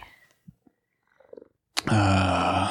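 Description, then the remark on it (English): A freshly nail-trimmed cat purring: after a few faint, scattered low sounds, a loud, steady, buzzing rumble with a rich harmonic tone starts abruptly and holds for about a second, with no voices. “Catching some real good purrs here, I think. We have a freshly nail-trimmed cat.”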